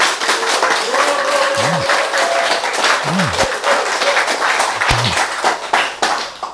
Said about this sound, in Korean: 박수.